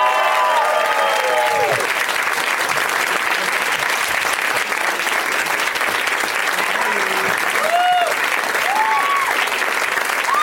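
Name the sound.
audience applause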